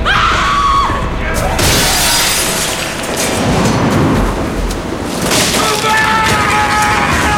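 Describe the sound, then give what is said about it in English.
A loud crash of a glass window being smashed with a hammer: a heavy blow followed by shattering and tinkling shards, with a second burst of breaking glass and rumbling impact noise after it. “runs towards one of the windows. He smashes it with a killing hammer and steps inside.”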